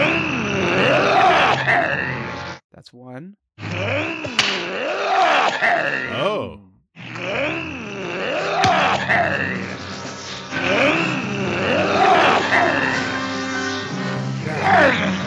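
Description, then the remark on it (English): A series of four loud, rasping Gorn growls, each a throaty, wavering snarl that rises and falls in pitch, separated by short gaps, with a brief spoken remark between them. “Here's let's hear some sounds. Four some separate sounds. Gorn growls.”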